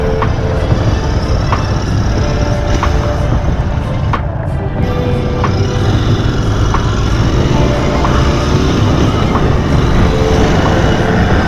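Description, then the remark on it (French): A loud, steady roar of about fifty motorcycles riding together on a fundraising ride for the Restos du Cœur charity in tribute to Coluche, engine noise blending into one continuous drone with a few sharp clicks and no pause for the full length. “Aujourd'hui, nous sommes environ une bonne grosse cinquantaine de motos.”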